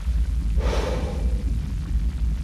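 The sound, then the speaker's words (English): A deep, steady rumble of an underground tube train passing, with a brief airy whoosh swelling over the low drone partway through; no one speaks. “Can you hear that noise, by the way? That's for those of you with a decent car stereo, that's the tube line.”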